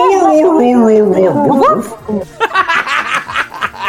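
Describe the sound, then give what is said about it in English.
A voice imitates a dog howling, a wavering, whining tone that slides downward in pitch like Pac-Man's losing-a-life jingle, then gives way to breathy laughter. “It's like Morph. The dog version of Pac-Man Morph. Getting, losing a life.”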